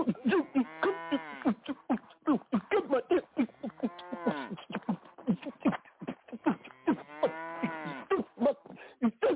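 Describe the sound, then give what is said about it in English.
Cows moo over and over, loud, their drawn-out lows rising and falling in pitch and overlapping one another in a steady, noisy chorus with no talking. “I told you to stay away from that cow.”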